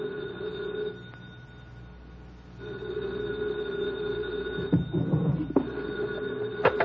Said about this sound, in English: 2:00 in the morning, the phone rang.